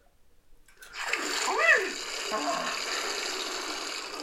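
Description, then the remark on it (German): A shower starts up after a brief squeaky turn of the tap, then water sprays in a steady, hissing stream that keeps running without any voices. “Klar, eine kalte Dusche am Morgen stärkt die Abwehrkräfte.”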